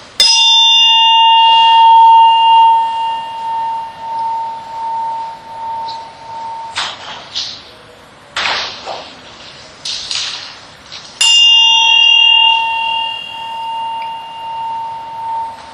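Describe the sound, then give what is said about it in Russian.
A small bell is struck to begin a focus exercise, its clear bright tone ringing out and slowly fading, then struck once more several seconds later to end it, after a quiet stretch with faint rustling. “Начинаем с ударом колокольчика и с ним же и заканчиваем.”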